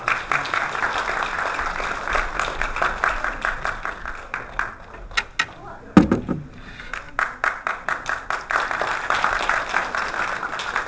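A crowd applauds steadily, a dense wash of many hands clapping that holds for about eleven seconds, thinning briefly near the middle before swelling back to full strength.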